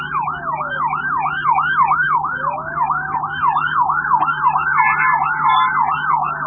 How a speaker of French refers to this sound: Ce sont là des sirènes des ambulances et de la Régie des voies aériennes et de la MONUSCO. Ils annoncent le début de l'opération de simulation des secours des aéronefs.